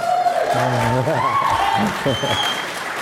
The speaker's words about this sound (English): Wow. You can clap.